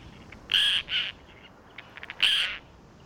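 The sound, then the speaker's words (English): Roseate tern calls: three harsh, raspy cries, the first and last longest, with a few short clipped chips between them, all fairly loud and with no talking. “The pinkest of all this group are roseate terns, which have some pink all year, but reach their showiest at the start of the breeding season.”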